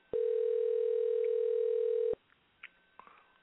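One steady telephone ringing tone from a live call placed during the High Talk Radio show, a loud, even mid-pitched hum lasting about two seconds, cuts off abruptly, leaving faint clicks and quiet line noise. No one speaks.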